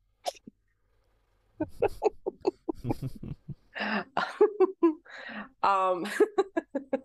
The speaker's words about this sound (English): Yeah, I think because when I cough, and also because I've got my implant, I think it's just not a lot of room for me to breathe when I'm coughing, which is really gross.